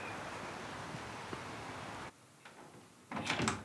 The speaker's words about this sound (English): The door opens into Zoe's room to reveal her and Karen.